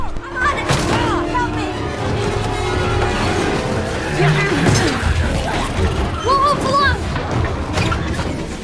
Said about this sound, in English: The Graces stuff the tomato sauce into the oven as Mol'Garath decimates the house.